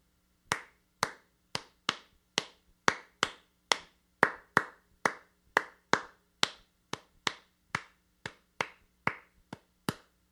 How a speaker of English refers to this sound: It's the quintessential rhythm for reggaeton. If any of you ever like listen to Latin American pop music, you hear this everywhere. So what is tresillo? Well, I want to clap it for you first.